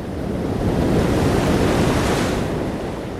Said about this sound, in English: I could hear the wave before I could see it.